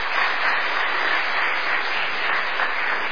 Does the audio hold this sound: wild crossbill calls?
no